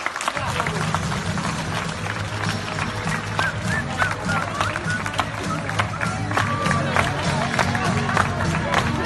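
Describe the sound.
Nurses and staff of the IFEMA field hospital, which closes the next day, clap and cheer steadily in the last 8 p.m. applause of the coronavirus fight. The applause is dense and overlapping with sharp individual claps, while music plays underneath and voices mingle in the background.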